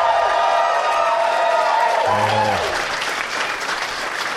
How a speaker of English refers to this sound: My applause better be bigger than that.